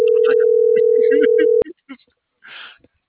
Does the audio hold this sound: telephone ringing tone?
yes